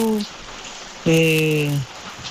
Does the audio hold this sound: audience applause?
no